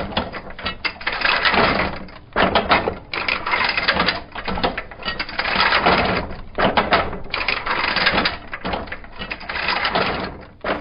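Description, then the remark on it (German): An old printing press clatters and rattles steadily, dense mechanical clanking in repeated bursts with brief pauses, loud and continuous with no voices. “Es stammt aus einer Zeit, in der Druckerpressen noch lärmende Maschinen waren, die ächzten und rasselten und penetrant nach frischer Druckfarbe rochen.”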